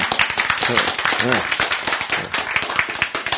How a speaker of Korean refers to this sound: 탁! 이런 거네. 박수죠, 뭐. 예.